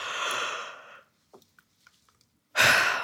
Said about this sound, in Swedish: Innan man går och sätter sig i det här rummet där man ska bli intervjuad, så är det bra att man går iväg en stund till närmsta badrum och faktiskt gäspa lite, för gäspningar får en att slappna av. Testa själv nu bara.